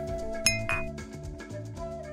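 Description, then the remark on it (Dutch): A whisky glass holding The Macallan Double Cask 18 Years Old gives one bright, ringing clink, followed by a short shimmering rattle, heard clear over a soft, steady music bed with no talking. “Vandaag reflecteert uw stijlpastoor met een glas Double Cask 18 Years Old van The Macallan.”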